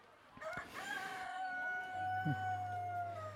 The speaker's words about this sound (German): Genau, hier ist auch nochmal so eine Hühnerfabrik im gleichen Maßstab. Hier kann man die Eier kaufen von den Hühnern, gibt's auch. So, hier wird gerade ein Huhn kopfüber an den Füßen rausgeholt aus so einem Käfig und begutachtet, ob es auch gesund